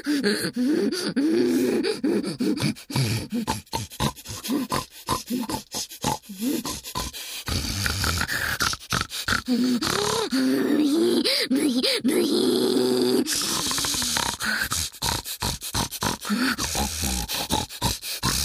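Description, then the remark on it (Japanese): A human voice imitates a pig, letting out a loud, continuous stream of snorting grunts and strained, wavering squeals with rapid breathy gasps and no words. “チンポこび、豚泣きします。”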